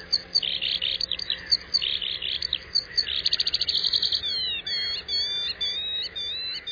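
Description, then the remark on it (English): A skylark pours out a continuous, rapid warbling song of high chirps, trills and buzzy rattles, unbroken for several seconds, clear over faint background hiss. “No other bird in North America has such a long song or sings so persistently in flight.”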